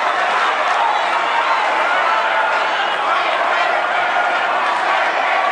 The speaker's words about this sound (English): The crowd urging Cruz to endorse Trump, which he hasn't done yet.